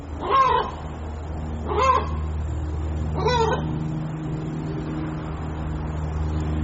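A chicken lets out three loud, harsh squawks, spaced about a second and a half apart, over a steady low droning hum, then only the hum continues.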